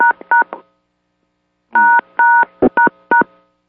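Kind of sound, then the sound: signal or alarm, phone keypad DTMF tones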